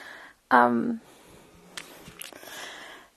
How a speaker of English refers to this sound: Totally can hear my dog snoring in the background.